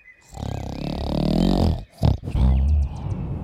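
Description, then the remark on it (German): A voice imitates the loud, deep snoring of a giant dozing off in a fairy tale: a long, rasping, growly inhale, a brief snort, then a rough rumbling exhale, with no talking. “Und dann begann der Riese einzunicken und zu schnarchen, dass das ganze Haus wackelte.”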